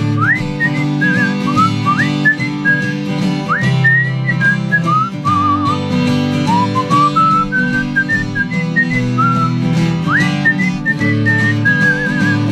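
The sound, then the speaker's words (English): A person whistles a bright, lilting tune in clear phrases with upward slides and quick trills, carried over a steady instrumental backing for the whole stretch. “I'm gonna whistle.”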